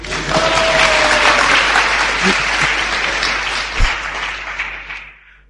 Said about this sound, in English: Very good. Do they deserve a clap?